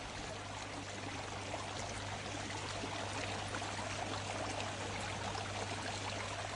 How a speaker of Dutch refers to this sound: Nou, het meest opvallende is in deze stilte is denk ik het lawaai van het water.